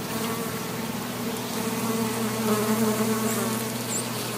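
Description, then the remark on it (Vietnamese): A steady buzzing of native bees fills the whole stretch, a continuous droning hum that swells slightly midway, with no voices present. “Sau đó họ cùng theo dõi sự hiệu quả của công việc tại trung tâm Lockford nhằm đem lại những con ong bản địa và phục hồi lại các dịch vụ thụ phấn cho các trang trại địa phương.”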